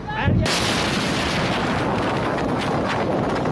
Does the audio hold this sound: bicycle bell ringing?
no